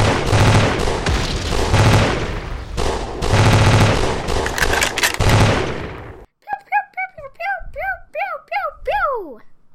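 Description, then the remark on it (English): Loud, rapid bursts of machine gun fire from a Nazi airplane rattle out in several volleys as bullets whizz past a fleeing car, then give way to a string of high, sliding vocal whistles and chirps. “Drove this way and that while bullets whizzed past her, and finally she flung herself out of the moving car and ran to safety.”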